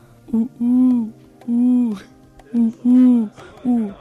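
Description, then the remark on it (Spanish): A human voice imitates an owl's hoot: six low, steady, tonal hoots in two groups, each a short note followed by two long drawn-out ones. “Y bueno, queridos oyentes, ahora os voy a enseñar cómo hacen las aves. Por ejemplo, un búho.”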